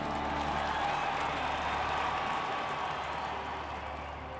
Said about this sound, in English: Harrison takes his seat as the crowd applauds and waves miniature flags.